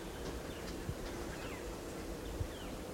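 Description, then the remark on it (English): Several faint calls from wild type 2 birds, 4 to 5 responding, short downward-sweeping notes scattered a few times, over a steady low outdoor rumble with a couple of soft thumps. “Recording these wild type 2s are calling a little bit. There's 4 to 5 loud there in the wild responding.”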